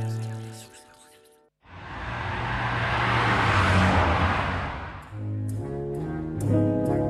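A BMW car engine hums, then a vehicle sweeps past with a rushing roar that swells over several seconds and fades, before the engine's steady tone returns.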